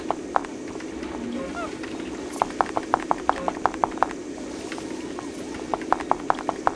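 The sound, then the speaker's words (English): Quick, light pattering footsteps in two rapid bursts of a video game monkey scampering while the player follows it, over a steady low background hum with a faint chirping squeak early on, the monkey's little noise. “And I'm following his footsteps. That's his little noise he makes.”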